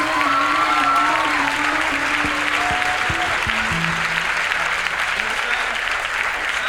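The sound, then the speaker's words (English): A concert crowd applauds steadily as the band's drummer is introduced, with scattered cheers and whoops rising over the clapping, which stays loud and dense throughout. “On lead drums, the only drummer we've ever had, our sex symbol, the legend keeps diminishing, but please scream anyhow”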